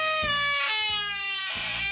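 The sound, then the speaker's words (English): A men's room door at a restaurant creaks open in one long, high, whining squeal that wavers and slowly drops in pitch, broken by a few soft knocks, with no voices. “the men's room door sure makes a creaking sound.”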